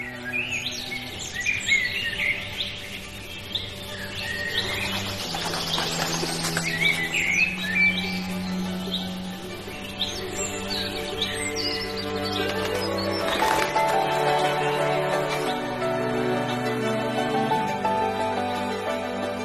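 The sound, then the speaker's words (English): A dense dawn chorus of many birds singing at once at a Berlin cemetery, overlapping chirps and trills running continuously over a soft, sustained low tonal backing with no talking. “And witnessing the dawn chorus was absolutely magical.”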